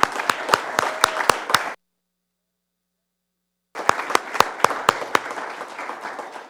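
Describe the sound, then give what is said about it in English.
A church audience applauds the women in a dense, steady wash of clapping with a few sharp individual claps standing out. It is cut by about two seconds of silence before the applause resumes. “If you would, a round of applause for the women.”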